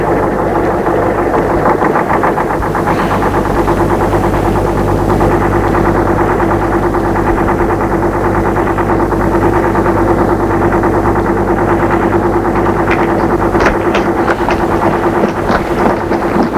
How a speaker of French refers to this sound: Il y a du pavé sur la chaussée qui est peu large. Les camions ont envahi la rue.